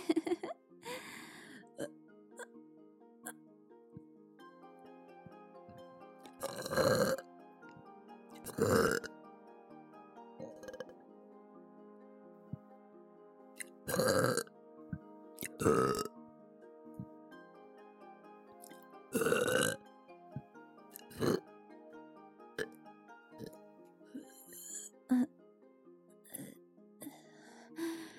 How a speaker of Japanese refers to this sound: ゲップ恥ずかしい。